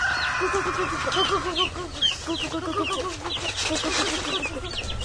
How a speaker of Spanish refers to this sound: Espérate, mami, que les estamos dando de comer a las gallinas.